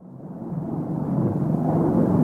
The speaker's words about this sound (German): Oh mein Gott, das ist eine Lawine!